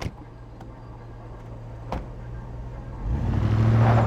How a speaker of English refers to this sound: We get into the vans to drive over to the parked helicopter.